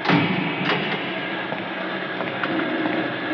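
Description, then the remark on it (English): A heavy iron cage door in a small prison jail room clanks shut with a thud as the keeper closes it, followed by a run of ratcheting, grinding mechanical clicks as he turns the lock, fairly loud with no voices. “The keeper locks my iron door, turns out the light, and is gone.”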